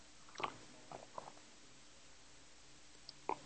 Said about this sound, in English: All right, let me take a sip here of fluoride-free water. Hold on, I'm a little verklempt.